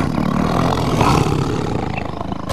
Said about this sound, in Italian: All'improvviso, Simba si trovò circondato da una ringhiante banda di leonesse capeggiate da Zira.